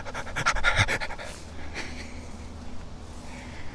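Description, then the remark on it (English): A person mimics a giant Malinois dog at a bar panting, with a quick run of rhythmic, breathy huffs, loudest at the start, then trailing into softer, slower breaths. “I said, are you a Malinois? And dog's like...”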